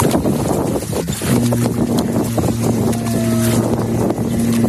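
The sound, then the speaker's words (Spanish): A new Russian nuclear submarine entering the water for the first time at its launch, a little over a year ago: a windy, rumbling outdoor roar, then a deep, steady horn-like tone that sounds loudly and holds for several seconds under the noise. “Esto que escuchas es el momento en el que entró en el agua por primera vez hace poco más de un año.”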